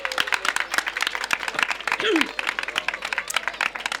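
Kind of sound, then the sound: crowd, audience applauding children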